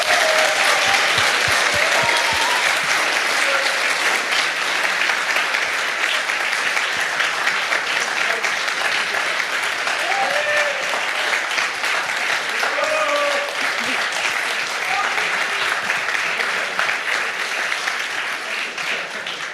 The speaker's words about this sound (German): Ich würde sagen, das ist einen ganz großen Applaus nochmal wert.